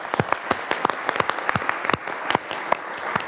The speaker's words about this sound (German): Das ist der Moment für den Applaus.